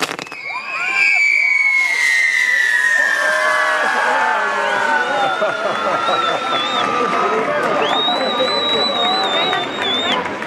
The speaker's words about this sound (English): The third day of the fiesta climaxes with fireworks, whose shower of sparks rains down on the delighted throngs.